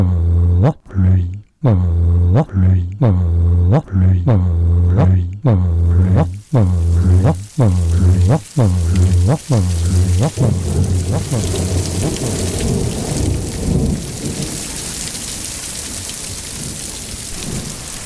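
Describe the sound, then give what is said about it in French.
A rhythmic chanted melody gives way to a steady rush of rain, the downpour swelling into a loud, hissing wash that fills the second half on its own. “Il faut de la pluie, de la vraie pluie.”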